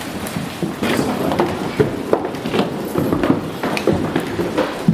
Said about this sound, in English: Kids. There are a lot of kids up here. Footsteps. So you're going to hear footsteps, running. Lots of running. Up here's the kids. It's mostly the kids running up and down.